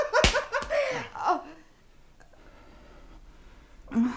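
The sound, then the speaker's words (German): A single sharp slap across the face cracks out at the start, followed by a few strained, whimpering vocal sounds and then near silence before a short voice at the end. “Entschuldigen Sie die Ohrfeige.”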